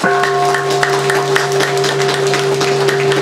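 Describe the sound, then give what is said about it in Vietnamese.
An audience at a Buddhist gathering applauds steadily for Buddhists who came from Canada, dense clapping without letup, while a constant tonal hum from the sound system drones underneath. “Tôi xin tán thán những Phật tử đến từ Canada, một tràng pháo tay.”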